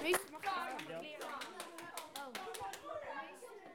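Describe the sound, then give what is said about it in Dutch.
Children applaud with a quick, irregular patter of sharp claps lasting a few seconds, while high young voices chatter and call out over the clapping. “Super. Hey, applaus.”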